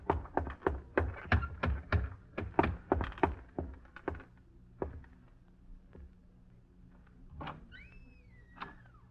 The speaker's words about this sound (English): and then a door closes in the other room